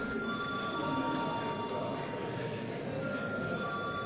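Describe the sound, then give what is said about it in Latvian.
A parliament bell rings steadily as deputies are called to vote on making a bill urgent, a sustained electric tone with bright, high overtones that holds unbroken for several seconds over a low murmur of background noise. “Lūdzu zvanu.”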